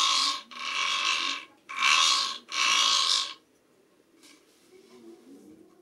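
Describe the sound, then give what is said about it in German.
A hungry little brown bear's stomach growling: four loud, rough, gurgling bursts in quick succession, followed by a few fainter, softer rumbles trailing off. “Könnt ihr hören, wie sein Magen knurrt?”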